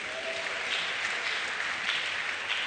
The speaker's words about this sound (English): If you came to this church or you received Jesus and you are a church member because a friend, a family member, a relative, a workmate, a classmate, or somebody close to you invited you, I want you to be on your feet. Please clap for them.